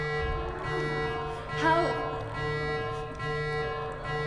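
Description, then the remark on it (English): A steady electronic alarm tone, used as a joking false-facts alarm, blares continuously for several seconds, with a brief warbling sweep partway through, loud, like a buzzing siren sound effect. “I'm sorry, that's my false facts alarm.”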